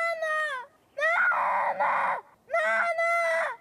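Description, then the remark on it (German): In a film scene, a child screams three times in long, piercing, high-pitched bursts separated by brief pauses, loud, with no talking. “Und erinnern Sie sich noch an diesen Schrei?”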